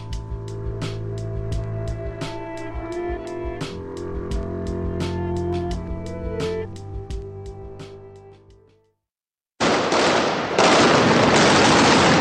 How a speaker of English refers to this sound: The sound of gunfire there in Iraq between the Iraqi military and al-Qaeda militants in Anbar province on Sunday.